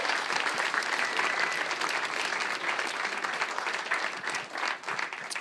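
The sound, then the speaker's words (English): Sustained applause from an audience fills the whole stretch, a dense, steady wash of many hands clapping at an even, fairly loud level without any voices standing out. “Yeah, give him a big round of applause for that.”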